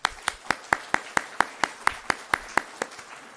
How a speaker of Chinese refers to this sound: 其实趁这个时间呢，我们都是先要给掌声带领着我们这个教会进到新的一年，过去一年当中神的恩手的拖带。我们先将我们重赞，我们赞美藉着我们的掌声献过给我们上帝，好不好？